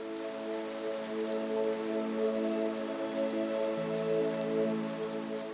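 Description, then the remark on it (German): Steady rain falls on a surface, a continuous hiss dotted with sharper drop ticks, over a soft sustained musical drone that holds throughout. No one speaks. “Und das frische Wasser des Regens lässt ihre Farben noch lebendiger erscheinen.”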